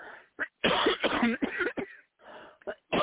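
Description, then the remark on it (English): A series of harsh coughs and throat clearing in irregular bursts, several rough hacks clustered together with brief pauses between them, no talking. “People with the coughing.”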